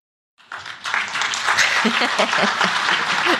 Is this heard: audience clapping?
yes